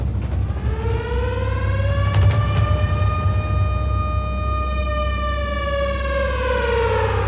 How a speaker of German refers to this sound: Aber wenn ich mir vorstelle, es gibt Luftalarm, also die Sirenen heulen, dann haben die Leute eine Viertelstunde Zeit, in die Schutzanlagen zu rennen.